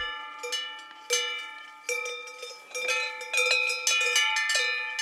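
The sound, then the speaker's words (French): Distant metallic bells clank irregularly in overlapping strikes, like a cluster of cowbells swaying, each ring sustaining bright, steady tones that pile up over several seconds with no talking. “J'ai l'impression d'être à la montagne avec toutes ces cloches.”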